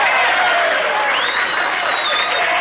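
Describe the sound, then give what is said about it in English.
Loud, dense applause from a large audience fills the whole moment, with a couple of sharp whistles gliding above the clapping. It sounds like a steady, prerecorded ovation: a taped applause-and-whistles effect played in as a canned audience reaction. “Or applause and whistles.”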